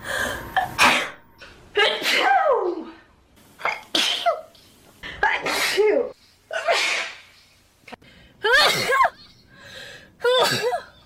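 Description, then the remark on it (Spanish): A woman sneezes over and over, about ten loud sneezes in a steady series, each a sharp burst with a voiced, squeaky tail, separated by brief pauses. “Quita todo y solo déjala estornudando.”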